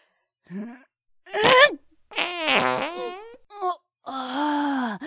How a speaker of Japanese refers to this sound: まったいい屁が出ちまったぜ。どうだ、チンポに屁かけられた気分は。